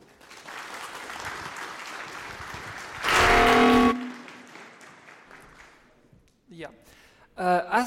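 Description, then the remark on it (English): An audience applauds steadily for a speaker at the start of a talk about the LibObscura camera library, with a brief louder surge of clapping and a tonal whoop in the middle, then the clapping fades and a voice begins speaking. “Please enjoy the talk with a round of applause”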